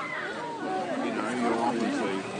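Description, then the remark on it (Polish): Busy crowd chatter at the monthly Bellingen market, a steady overlapping hubbub of many voices talking at once, with no single speaker standing out, holding a constant moderate loudness throughout. “Market Bellingen odbywa się tylko raz w miesiącu i ku memu zdziwieniu przyciąga naprawdę solidne tłumy bardzo osobliwie wyglądających ludzi.”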